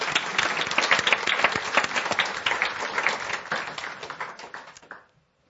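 An audience applauds in thanks to a helper with books, tapes and registration, steadily for about five seconds, a dense patter of many hands clapping at a fairly loud level, then the clapping stops abruptly.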